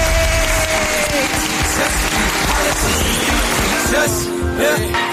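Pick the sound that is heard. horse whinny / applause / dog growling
applause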